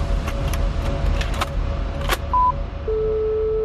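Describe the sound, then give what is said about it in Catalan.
A telephone call being dialed to the number a message was sent from: scattered clicks and a brief beep, then a steady electronic tone sets in and holds, over a constant low rumble with no voices. “El primer va ser trucar al número des d'on va ser enviat el missatge. Endavant, corta i llamada telefònica.”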